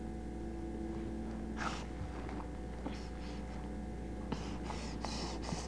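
human body sound, heavy breathing

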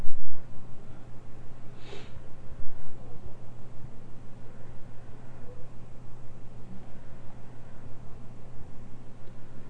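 human body sound, sniffling nose

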